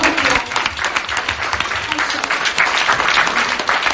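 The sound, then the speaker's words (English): A large group standing on their feet applauds for God steadily for several seconds, dense overlapping claps at a loud, even level without pause. “Can we clap real quick for God?”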